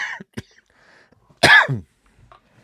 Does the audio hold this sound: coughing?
yes